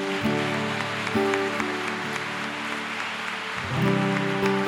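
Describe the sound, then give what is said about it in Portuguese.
A church audience claps steadily in a dense, continuous patter, giving a round of applause to the Lord, with sustained keyboard chords ringing underneath and shifting near the end. “Dá mais uma salva de palmas ao Senhor.”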